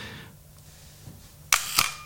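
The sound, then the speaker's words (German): A camera shutter fires at a slow exposure of about a quarter to half a second, with the camera back open: two crisp mechanical clicks roughly a quarter second apart, opening then closing, following a stretch of near silence. “Macht die Kamera hinten auf, geht auf eine relativ langsame Belichtungszeit von vielleicht einer Viertelsekunde oder einer halben Sekunde.”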